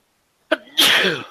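A single loud, close sneeze: a short sharp intake and catch, then an explosive breathy burst that trails off over about half a second. No talking.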